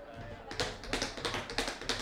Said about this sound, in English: Your rolling shuffles were a great deal off in the opening number.